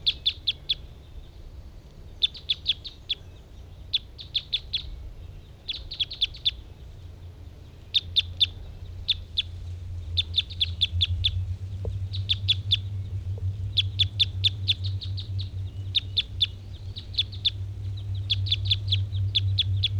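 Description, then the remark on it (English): A bird sings close by, repeating quick clusters of high, buzzy chirps in a steady rhythm for the whole stretch, over a low continuous rumble. No one speaks. “Here's that one that was getting interested. And was singing real close.”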